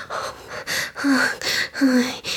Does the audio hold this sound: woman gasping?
yes